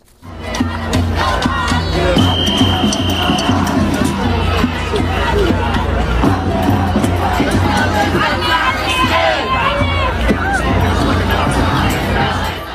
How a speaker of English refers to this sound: Look at these protesters. Again, you talk about timing. This was in Manhattan yesterday, clip 10.